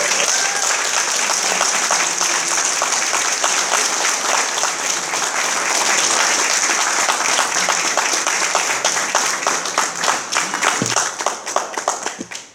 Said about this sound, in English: and let's give them, as well as our speaker, another round of applause.